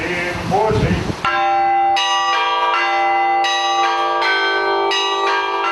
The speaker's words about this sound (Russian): Наиболее захватывающие занятия прошли на колокольне. Ребята узнали о том, что такое колокольный звон и для чего он необходим, что означает каждый колокол.